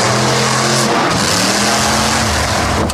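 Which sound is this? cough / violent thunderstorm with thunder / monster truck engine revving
monster truck engine revving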